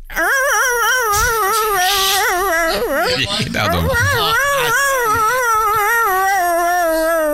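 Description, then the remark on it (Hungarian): A person imitates the whine a husky makes before it starts howling: a loud, high, nasal wavering cry held for several seconds, breaking briefly into a throaty warble midway before resuming its undulating pitch. “Mielőtt elkezdenek vonyítani, van egy ilyen hülye hang.”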